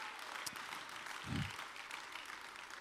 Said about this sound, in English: Clap your hands all over this building right now.